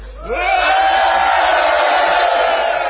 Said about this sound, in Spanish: Vamos a hacer ahora algo para remarcar la felicidad que nos invade. Primero vamos a gritar otra vez.